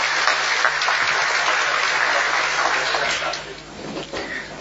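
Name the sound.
audience clapping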